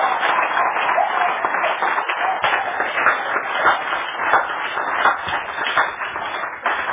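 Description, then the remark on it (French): An audience applauds for the Holy Spirit steadily for several seconds, a dense, continuous patter of many hands clapping at a fairly loud, even level with no pause. “Applaudissez pour le Saint-Esprit qui a collé une bonne fessée.”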